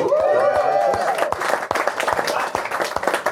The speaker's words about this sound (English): All marriage year numbers get applause. We don't know what these people are doing. We don't know if they like each other. But we know what 22 years is. And we applaud for that.